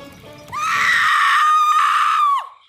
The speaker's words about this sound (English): A sudden shriek, however, stilled everything, even the firelight.